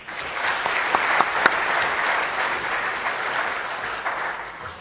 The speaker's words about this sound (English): Yes, and please just give the panel a round of applause.